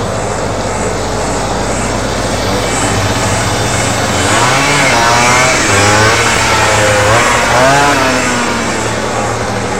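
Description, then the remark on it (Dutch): A moped ridden by a boy draws closer and its engine revs up and down several times, its whine rising and falling over a steady wash of loud background noise. “Ja, dan komen ze aan en dan komt een brommerjongetje aan.”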